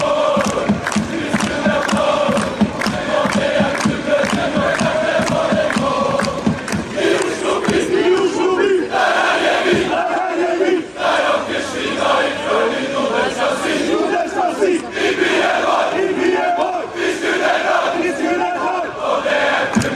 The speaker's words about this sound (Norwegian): foran på en måte øst da, i der, 700 fra klanen, sånn cirka, og så sang de til dere.